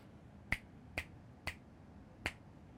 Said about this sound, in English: If I snap over there, snap my fingers over the right, you saw that directional change.